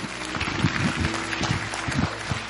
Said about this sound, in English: Come on, give the Lord a big hand clap, will you?